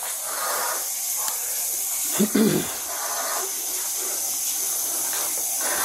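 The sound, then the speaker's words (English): A continuous, loud hiss of boiling water spraying out with steam, steady throughout, broken briefly by a short low thump near the middle. “I'm not taking hot boiling water to the fucking face, and it already reached us.”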